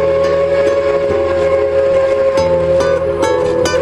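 A loud, sustained steam whistle blows steadily over the rumbling clatter of a passing train, with rhythmic wheel knocks punctuating the continuous drone.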